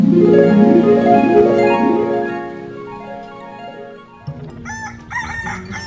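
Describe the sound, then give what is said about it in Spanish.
A rooster crows loudly, one long drawn-out call that falls in pitch, followed by fainter squawks and clucking from other fowl; the roosters are kept for cockfights. “Aquí tengo mis gallos. Voy a hacer unas peleas.”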